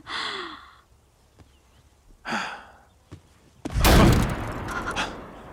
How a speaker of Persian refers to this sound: صدای شلیک بود. اینجا به خاطر تخلف به دیگران شلیک میکنه؟ نه معلومه که نه.